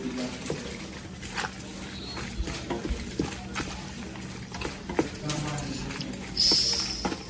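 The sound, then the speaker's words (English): Wet, squelchy mixing of strained macaroni with a poured-in tomato mixture in a pot, with repeated soft scraping strokes and clinks, plus a brief bright scrape near the end. “Now we're going to pour the tomato mixture into the pasta.”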